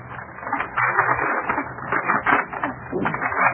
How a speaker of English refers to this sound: Look, the wrapping is still on it. I haven't even seen it myself. Take off the paper, will you,